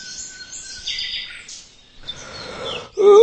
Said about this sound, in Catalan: Quan es va despertar, el sol brillava i els ocells cantaven al seu voltant.